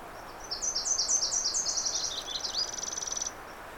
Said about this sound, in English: Of course, you're hearing chipping sparrows and the magnolia and the Nashville. That's the Nashville. And that's the magnolia. And that's the chipping sparrow.